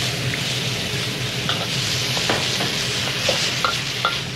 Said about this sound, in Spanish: En casa, el padre está flambeando verduras y carnes.